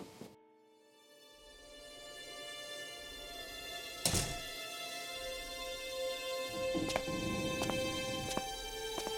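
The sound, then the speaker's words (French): A door shuts with one dull thunk, followed a few seconds later by several softer clicks and knocks, all over a steady tonal hum with no talking. “Ah, ferme pas la porte, j'y vais.”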